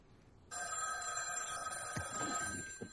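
A telephone bell in a house starts ringing abruptly and continues steadily, bright, over quiet room tone with a few soft thumps near the end.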